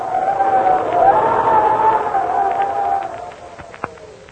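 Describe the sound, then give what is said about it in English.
Howling wind sound effect: a steady whooshing rush with a moaning tone that slowly rises and falls in pitch, fading slightly toward the end, with one brief sharp tick near the close. “Say, when you hear the wind blowing like this, what's the first thought that pops into your head?”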